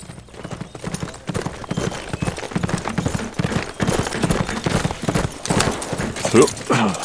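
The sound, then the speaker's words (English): Horse hooves clip-clop steadily in a quick, uneven rhythm as horses are ridden into the town of Big Rock, continuing the whole time, with a brief high whinny-like sound near the end. “Clint rode into Big Rock and tied his horses at the post outside the Big Rock Saloon.”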